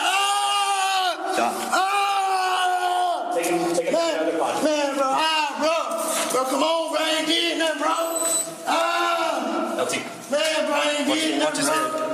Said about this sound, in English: That's the scream that echoed through the courtroom. The deputies carry him down the hall to another room, perhaps so he'll be less disruptive to the outside.